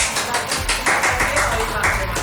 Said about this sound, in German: Normalerweise erklingt dann Applaus an dieser Stelle.